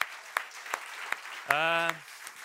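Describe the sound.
A church audience applauds a pastor and the church team in a steady wash of clapping, with sharper claps standing out at a regular beat and a short sustained voice cheering partway through.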